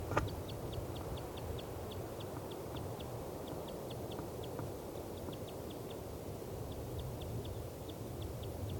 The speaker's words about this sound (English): The 95's flight call. That's the female. This is her again.